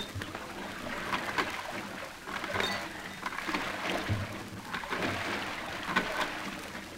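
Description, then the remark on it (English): Men row boats toward a bridge in fog: steady splashing and churning of water as oars dip and pull, a continuous sloshing wash with occasional louder strokes, without voices. “Begin rowing, men.”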